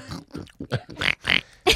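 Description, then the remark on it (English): A person imitates a pig, making a quick series of nasal snorts and grunts, several short bursts in a row, fairly loud with no talking. “I'm getting a pig theme. I really am. Yeah. I don't know if it's typecasting, but... I feel like we need a snort.”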